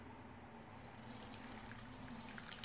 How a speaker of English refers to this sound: Okay, so I use a stainless steel strainer. I have quite a few actually. I'm just gonna strain it back into the pot because the pot's already dirty. Why dirty more equipment, right? So here we go. I'm just gonna pour it through.